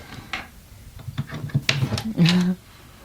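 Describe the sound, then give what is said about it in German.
A run of sharp metallic clicks and clacks as a key turns in a lock, followed by a brief low scraping rumble as a cabinet drawer full of old and new manuscripts slides open. “Also, können wir die Schublade mal aufziehen? Also, ja. Wenn ich hier mal einen Schlüssel mir hole.”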